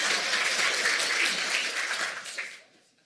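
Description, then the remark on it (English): A brief burst of scattered applause from a small group, fairly thin and unenthusiastic, holding steady for a couple of seconds before trailing off into quiet. “That was a lame clap.”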